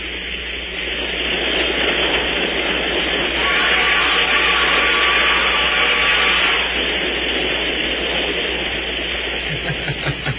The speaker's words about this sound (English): On the wrong train, going in the wrong direction, and dressed only in their red flannels and overcoats. What a train ride.